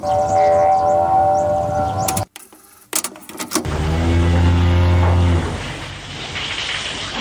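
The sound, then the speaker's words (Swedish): An old cow moos in a long, low, drawn-out call, loud, following a harmonic droning hum and a short burst of clicks and crackles. No one speaks. “Ja, det där var muandet från en gammal kossa.”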